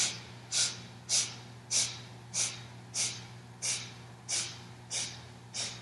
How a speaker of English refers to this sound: Inhaling in 10 equal sniffs, moving your hands towards the forehead. It moves like this, just watch for a second here. Inhaling.